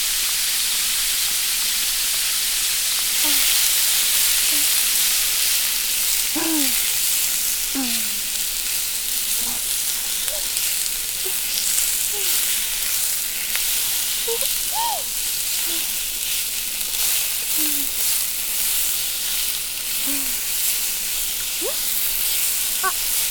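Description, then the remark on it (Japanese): Steady, loud sizzling and crackling as cut vegetables are added to meat that has changed colour in a hot frying pan, with scattered pops and the occasional scrape of stirring running throughout. “お肉の色変わってきたので、切った野菜を入れますよ。”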